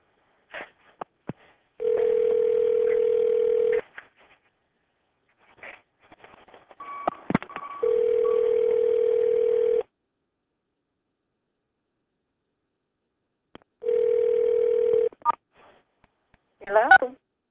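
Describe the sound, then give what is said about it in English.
A telephone line gives three long, steady tones about two seconds each, separated by gaps with short keypad beeps and clicks as a call is placed from a second phone, then a brief burst of faint voice at the end. “I'm going to call you on my other phone because this is about to die.”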